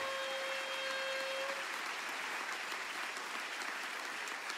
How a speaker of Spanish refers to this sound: ¡Aleluya! Alguien tiene que aplaudir fuerte y decir, pero qué lindo, no lo había pensado.